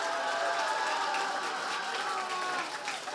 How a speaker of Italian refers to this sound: Andiamo con l'applausometro. 3, 2, 1, via.